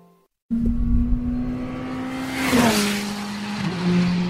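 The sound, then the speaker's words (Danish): Racing cars roar steadily at the Jyllandsringen motor circuit, a sustained engine drone that swells as a car sweeps past, with a rushing whoosh midway and no voices. “Her der kan du nemlig komme med ham på besøg på det savnomspundne Jyllandsringen.”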